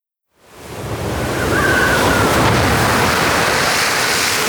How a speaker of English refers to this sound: Loud noises of thunder and lightning can be heard because of the terrible storm.